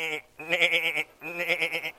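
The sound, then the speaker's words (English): A person imitates a sheep with two long, quavering "baa" bleats as a sound effect for a herd of sheep while telling the story of David and Goliath, fairly loud, separated by a brief pause, with no other sounds. “And one day he was taking care of a herd of sheep.”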